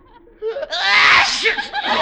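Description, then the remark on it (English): A loud, breathy sneeze bursts out from behind a couch in a study after a short vocal wind-up, trailing off into voiced, groaning sounds; no clear words are spoken. “That sneeze came from behind the couch.”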